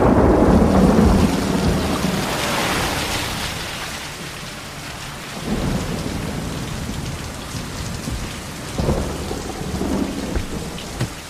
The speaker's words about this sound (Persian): خب بذارید یه نگاهی به وضعیت آب و هوای منطقه بندازیم. همونطور که میبینید جبهه کم فشاری باعث باران حال حاضره، اما از شدت این جبهه داره کاسته میشه و توسط جبهه پرفشار جایگزین میشه.